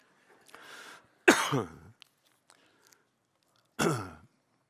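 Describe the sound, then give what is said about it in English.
A soft throat clearing followed by a couple of loud, harsh coughs, spaced a few seconds apart, with quiet pauses between them. “And it's filled with tenderness and a lot of coughing.”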